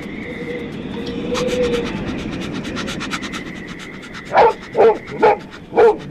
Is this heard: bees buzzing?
no